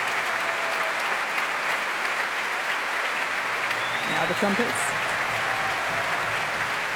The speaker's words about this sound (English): I think they're all being brought up to their feet, one by one, and now all together. The wind section standing now to receive the applause. Now the horns.